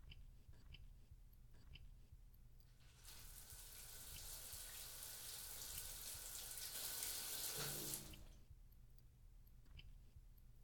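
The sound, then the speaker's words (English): Shower water runs in a steady, bright hiss for several seconds, swelling in the middle before shutting off abruptly, with a low background hum and no talking. “Anyway, I need to go take a shower.”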